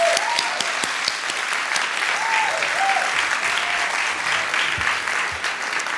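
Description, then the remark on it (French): Sustained audience applause at a ceremony at the Gaîté Lyrique, welcoming its director of communication: a dense steady patter of many hands clapping at an even loudness for the whole stretch, with a few faint voices and whoops rising briefly above it. “On l'applaudit, s'il vous plaît.”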